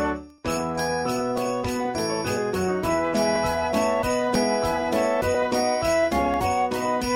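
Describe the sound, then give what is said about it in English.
Bright jingling bells ring out a steady, repeating melody after a brief faint start, with quick rhythmic strikes and shimmering high overtones. No voices. “He jingles the bells for us.”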